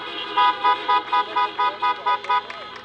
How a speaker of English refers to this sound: If those of you who are in your cars want to give a little lean on your horn as a thank you for everyone, that would be appreciated.